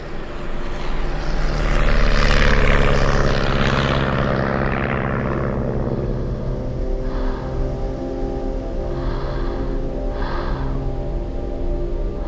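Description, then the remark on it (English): Steady, loud drone of a propeller airplane engine in flight, with a dense low hum and a broad whooshing surge early on that settles into a continuous roar, with no voices. “And I'm on an airplane.”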